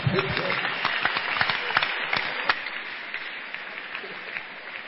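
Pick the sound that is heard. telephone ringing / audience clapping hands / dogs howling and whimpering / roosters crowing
audience clapping hands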